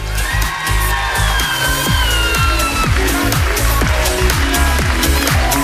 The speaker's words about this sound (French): Encore du bruit! Merci beaucoup, vous pouvez vous applaudir!